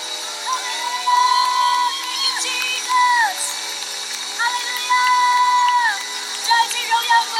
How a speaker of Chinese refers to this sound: 掌声归给爱我们的神，因为唯有他配得我们赞美，唯有他配得一切的荣耀。好吧，我们大大的将掌声归给他。